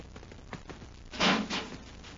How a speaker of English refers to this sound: Hey, an airlock. Get in and close the door,